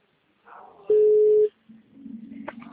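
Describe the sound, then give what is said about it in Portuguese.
A telephone rings once, a loud, steady electronic tone lasting about half a second, with faint muffled background sounds before and after. “Ó, atende o meu telefone.”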